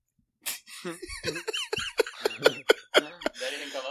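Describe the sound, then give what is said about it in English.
A man who has pushed his chair all the way back imitates a cat's meow from a distance, a drawn-out squeaky vocal cry followed by a quick string of rhythmic, laugh-like yelps. “… backed his chair all the way back and gave us a hearty meow”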